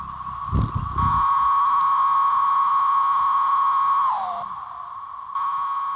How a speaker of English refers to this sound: You just heard from Macon community members and the city's Brood 19 cicadas, which will be out for just a few more weeks.